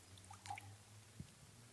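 Water being poured into a glass, heard as a faint, brief splash and a couple of soft drips over a low background hum, with no talking.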